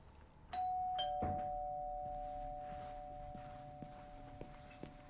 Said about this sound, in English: She approaches the grey front door in an arched porch. I ring the doorbell.